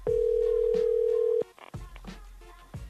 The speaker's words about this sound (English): We had a good first call and now it's just ringing, so I might just abandon this list after 5 more numbers and we'll move on to something else.